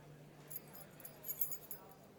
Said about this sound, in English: Thanks for dropping off the keys.